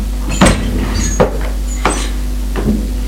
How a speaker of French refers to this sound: Le vieux va ouvrir la porte de droite.